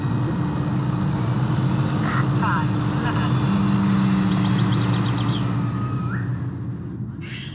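A model aircraft flown by the Leatherhead Model Flying Club buzzes overhead in a steady, fairly loud drone, its small engine's whining pitch rising and shifting as it passes, with outdoor background noise throughout.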